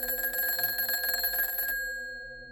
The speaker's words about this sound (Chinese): 就在我洗完澡倒头休息没多久，大约是凌晨2点左右吧，我被一阵电话的铃声吵醒。